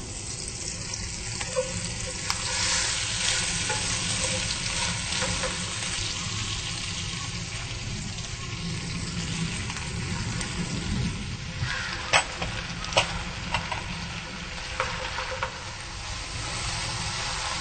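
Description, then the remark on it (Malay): Water spinach (kangkung) is added to a hot wok with a little salt and stir-fries with a steady, loud hiss and crackle, broken by a few sharp clinks of a utensil scraping and tossing the greens. No one speaks. “Dan masukkan kangkung.”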